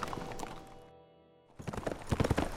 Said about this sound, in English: When Jack Grimshaw heard the horse coming up fast behind them, he reined in and motioned for the others to do likewise. Hooley galloped up and joined them